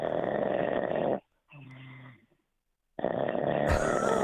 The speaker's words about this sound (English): How great is this? How great is this guy snore? That is fantastic.